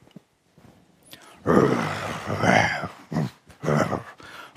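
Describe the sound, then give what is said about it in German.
A voice imitates a lion's low growl to illustrate a Hebrew word from the Old Testament: a few rough, rumbling bursts rising and falling, with short pauses between them. “Das macht Hagar, der Löwe. Er brüllt so ein bisschen vor sich hin.”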